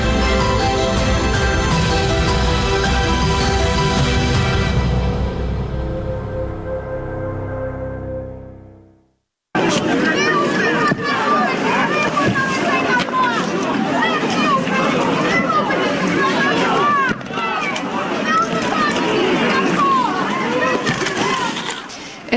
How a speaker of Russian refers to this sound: Я напомню, что вот эти потасовки, они случились в конце февраля